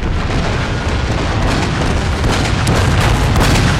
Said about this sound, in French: Puis, dans un rugissement assourdissant, les canons tonnent, libérant une salve dévastatrice.